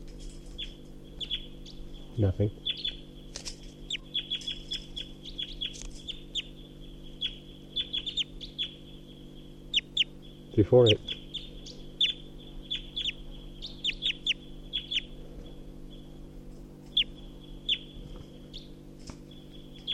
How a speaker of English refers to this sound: That wild bird is up in the tall pine above the net and was giving flight song and song phrases.